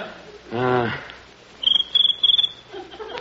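A cricket chirps in three quick pulsed bursts, fairly loud, following a brief murmured voice at the start.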